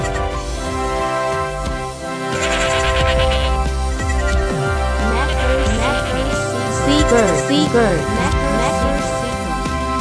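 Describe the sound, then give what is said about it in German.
Wavering, quavering goat bleats ring out repeatedly over steady music. They grow busier and more insistent in the second half and stay loud throughout. “Andere und nicht der Bäcker sind begeistert vom Gemecker. Sie wünschen sich, dass Tag und Nacht die Mecker-Ziege weitermacht.”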